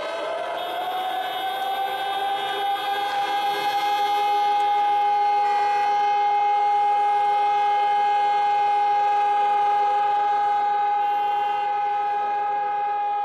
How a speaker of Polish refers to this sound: Nie boję się użyć tego sformułowania, ponieważ w wielu miastach naszego kraju właśnie w godzinę W stają samochody, są włączane syreny, żeby w ten sposób oddać hołd powstańcom.